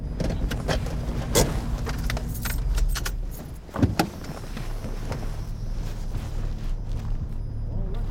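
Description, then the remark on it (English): A car engine hums steadily at low speed as the vehicle drives through a city, turns toward a bar and parks near a red truck, with jingling keys, small clicks and a soft thump midway, no voices. “Turns toward a bar and parks near the red truck.”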